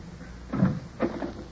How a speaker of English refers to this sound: It's mid-morning, and Mrs. Minette, the housekeeper, is opening the door for some early visitors.